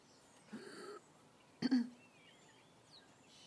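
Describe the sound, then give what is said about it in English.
On a very cold, icy day, a starling gives a short, nasal 'ew' call, followed by a sudden harsh throat-clearing cough. Faint, thin whistling bird notes trail off afterwards against a quiet background. “Don't know how well they're coming out, but Starling's doing the ew noise.”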